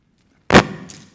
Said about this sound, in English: I have some keys.